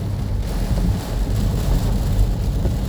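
A steady, dense wash of rain and road rumble from inside a car driving through a rainstorm on a road with construction, loud and continuous with a heavy low hum underneath and no voices.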